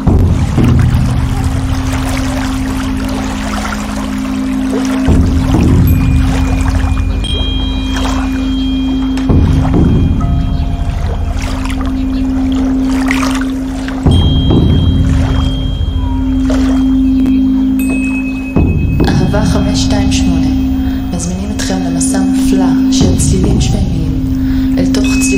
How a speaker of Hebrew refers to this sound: קריסטל המנוגנות בסולם סולפג'י, כשהן צפות על המים ומעלינו, משחזרות את ההרמוניה ומעדדות עם המים מגופנו.